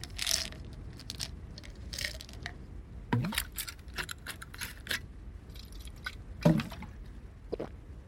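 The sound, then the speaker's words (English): Quiet handling sounds of taking pills with water: water sloshing and dripping mixed with soft squishy clicks and a few sharper taps, scattered irregularly across the moment, with no one talking. “You take two of them with water.”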